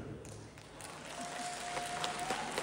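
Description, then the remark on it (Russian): A small scattering of audience members clap, only those whose birthday is today, thin and uneven, the quiet applause lasting a few seconds with no voices, just a faint steady hum underneath. “Только те, у кого сегодня день рождения, пускай поаплодируют только они, а мы послушаем.”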